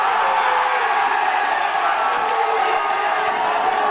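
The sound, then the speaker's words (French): A packed bar of football fans roars after a 1-0 World Cup victory, at the bar La Cave de Monsieur Guy in the old town of Boulogne-sur-Mer on the Côte d'Opale, France: a dense, steady wall of cheering and shouting voices that stays loud throughout without a break. “Des milliers de supporters ont célébré cette victoire, 1-0 hier soir sur la Côte d'Opale et les klaxons ont retenti dès le coup de sifflet final.”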